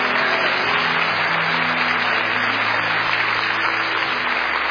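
audience clapping hands

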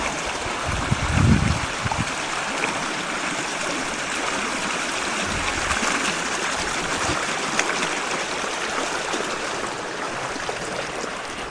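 creek water flowing

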